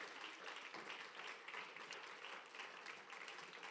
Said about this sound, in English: Give the Lord another clap offering. Amen. He is worthy.